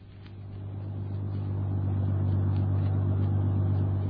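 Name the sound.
bus engine driving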